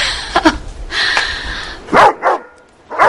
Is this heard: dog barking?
yes